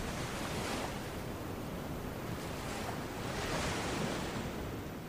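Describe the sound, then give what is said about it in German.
Ocean waves wash steadily onto the shore, a continuous soft roar of surf that swells gently and recedes, with a faint breath of wind and no voices. “Und höre das Rauschen der Wellen, wie sie sanft kommen und gehen.”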